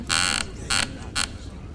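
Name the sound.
chair creaking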